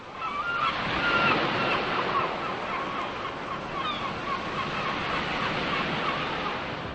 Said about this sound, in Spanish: La música de relajamiento que viene de los auriculares les proporciona la ilusión de escuchar el murmullo de las olas y el grito de las aves marinas.